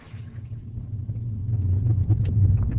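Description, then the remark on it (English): A car engine running on biodiesel made from vegetable oil runs with a steady, deep rumble, its low drone growing slightly louder and busier toward the end, with no voices. “I've noticed a slight loss of power in the car and a slight reduction in gas mileage.”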